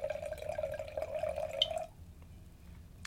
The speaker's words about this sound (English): The point, though, is we're going to pour some of this and find out what it tastes like.